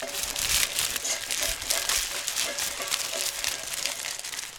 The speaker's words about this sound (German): Es raschelt und es knistert und es kratzt.